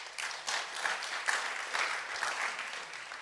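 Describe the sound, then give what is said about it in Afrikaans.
A church audience claps for one another steadily for several seconds, a dense, even wash of many hands with no voices over it and no clear individual claps standing out. “So kom ons gee vir mekaar kom ons gee 'n lekker hande klap.”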